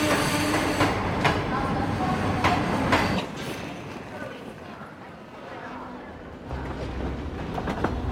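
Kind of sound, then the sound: vehicle, train running on rails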